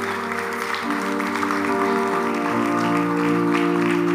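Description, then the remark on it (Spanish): An audience, asked to stand and applaud more loudly, claps steadily for about four seconds, a dense, continuous wash of applause over sustained keyboard-like musical tones, with no voices standing out. “Y ponte de pie, dale ese aplauso más fuerte y ponte de pie, por favor.”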